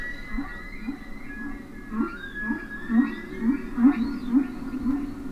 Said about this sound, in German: wie die Klänge von Walen auf sie wirken